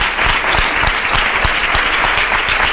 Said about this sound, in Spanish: El aplauso ahora de los hermanos de la hermandad de los gitanos.